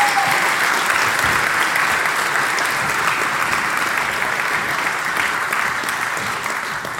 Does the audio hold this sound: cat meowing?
no